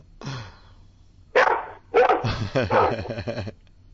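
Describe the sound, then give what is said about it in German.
A police dog on a street barks in a series of loud, rough barks, with a brief pause before a rapid run of barks. People's voices can be heard in the background. “Wir wechseln mal die Straßenseite, damit der Hund nicht weiter bellt. Der Polizeihund.”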